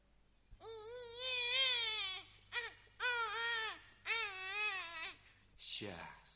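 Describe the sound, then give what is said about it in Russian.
A baby cries loudly in three long, wavering wails separated by short gasps, ending with a brief falling whimper. “Не плачь. Ну, будет тебе каша. Целая кастрюлька.”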